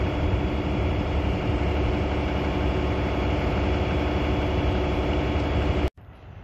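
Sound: airplane flying overhead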